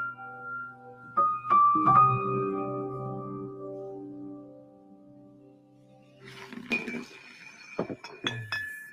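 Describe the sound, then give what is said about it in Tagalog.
Glass bottles clink together in a few bright, ringing knocks as men drink and one asks for another bottle, a cluster early on, then a quiet lull, then several more clinks near the end, moderately loud. “Pre, boss ka pa nga na isang bote dyan.”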